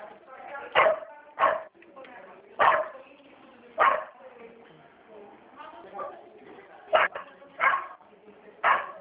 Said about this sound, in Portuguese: O cachorrinho tá latindo aí, hein? É verdade.